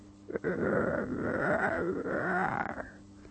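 A low, rumbling growl imitated by a human voice as the sound of a hungry wolf's hunger in a forest, drawn out for about three seconds with a wavering pitch, fairly loud, with no other sounds around it.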